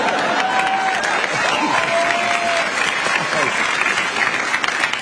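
studio audience applauding

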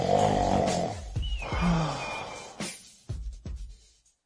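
two people snoring

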